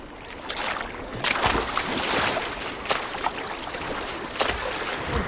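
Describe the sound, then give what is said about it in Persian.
A small paddled skin boat, made in an ancient style from sea lion skin, moves steadily across water toward an island in a bay, with a constant wash of rushing, splashing water and occasional louder splashes from paddle strokes, without voices. “قایق پوستی آنها که به سبکی باستانی از پوست شیر دریایی ساخته شده آنقدر سبک است که بتوانند آن را از ساحل بالا ببرند.”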